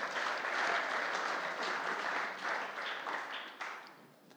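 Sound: round of applause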